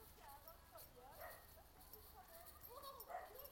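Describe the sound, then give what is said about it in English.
A dog barks a few times from inside a house, sounding muffled, over a steady outdoor summer hum with faint voices of children playing in a park in the background. “Oh, and a dog barking in a house.”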